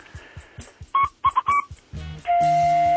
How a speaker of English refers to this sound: The Alabama fog whistle.